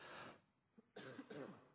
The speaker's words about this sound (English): sorry, I'm going to begin coughing a lot here.